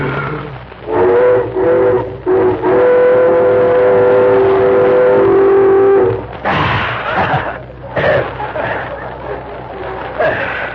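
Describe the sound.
A breathy, hollow whistle blown through cupped hands, thumbs crooked together and lips pressed against the thumbs' second joints, mimics a Western Pacific train whistle, with a few long, steady tones of shifting pitch, followed by people talking.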